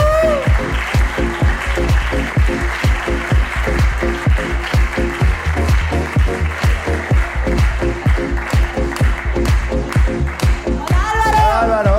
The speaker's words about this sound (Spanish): ahí está, aplauso.